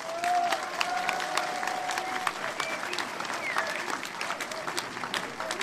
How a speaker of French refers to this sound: Et ça, en tout cas, on peut être fiers de nous, et vous pouvez vous applaudir rien que pour ça.